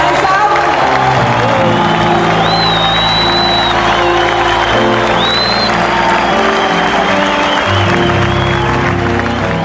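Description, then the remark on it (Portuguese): A church audience at a worship service applauds and cheers loudly and steadily in praise of God, dense clapping mixed with whoops and high shouts rising above it, with no pause for the whole stretch. “Give God a big hand praise. Louder.”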